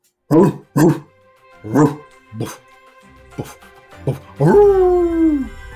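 A dog barks several times in quick, uneven bursts, fairly loud, then lets out a longer drawn-out whine that slides downward in pitch.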